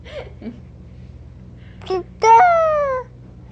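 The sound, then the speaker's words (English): A young boy makes a couple of short vocal sounds, then lets out one loud, drawn-out, falling cry, imitating a rooster's crow. “Which is it he's imitating? The hen or the rooster? The rooster. Cock-a-doodle-doo.”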